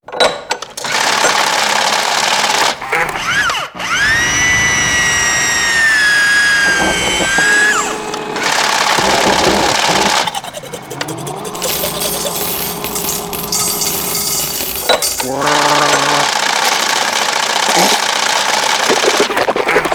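A coin-operated dental drill whirs as it enters a tooth canal, a loud high-pitched whine that slides and wavers, surrounded by steady buzzing mechanical noise and brief clattering pauses throughout, with no talking.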